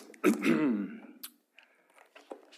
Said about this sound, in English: Particularly appreciate your patience with me, with my somewhat physical limitations on the coughing and all of that, and it's been a rough week,